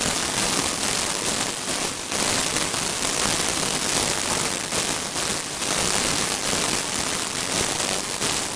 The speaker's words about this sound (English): Now, give you an idea of why that works, well, I'm going to play the difference here. This is the white noise difference.